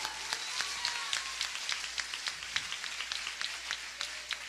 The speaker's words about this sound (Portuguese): Aplauda o Senhor por isso.